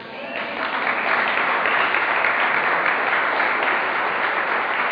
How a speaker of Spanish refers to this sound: Ahorita deberían de haber aplaudido todos.